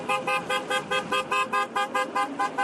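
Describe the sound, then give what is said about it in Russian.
A car horn honks in a fast, steady series of about a dozen short, loud toots as a column of vehicles, including historic ones, with flags and banners sets off toward Moscow on the "For a World Without Nazism" motor rally from Vladivostok and Khabarovsk; no one speaks. “Колонна машин, в которой есть и историческая техника, с флагами и знаменами двинулась в сторону Москвы и планирует финишировать в столице 1 мая.”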